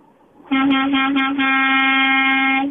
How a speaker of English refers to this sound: the truck horn guy. You're on WIP.